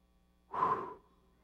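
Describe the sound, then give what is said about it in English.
A single forceful, breathy exhale lasting about half a second, as a person imitates Jesus breathing the Holy Spirit into ten men in a room. No talking during the breath. “He's breathing into them the Holy Spirit.”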